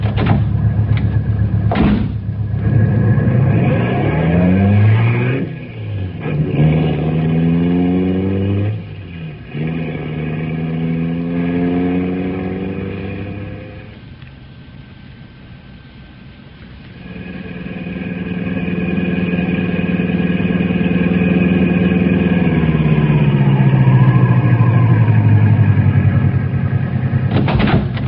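A car engine starts up and revs through several rising gear shifts, eases off briefly, then settles into a steady, loud drone as the vehicle drives on up the road with passengers who have just hopped in. A sharp thump, like a door, comes near the start.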